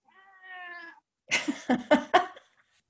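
A cat named Charlie meows: first a steady, drawn-out cry, then after a short pause a rapid string of three or four louder, raspier yowls. No one speaks.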